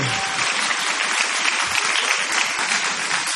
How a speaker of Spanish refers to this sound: Del otro lado recibe una ovación inolvidable Jorge Dorio.